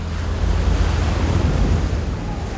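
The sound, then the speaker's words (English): A steady, loud roar of crashing surf and surging water as a Pacific tidal wave, one mile high, sweeps in; heavy, with deep rumbling low end and wind-like hiss running throughout, no voices. “A Pacific tidal wave. 1 mile high. Sweeps in.”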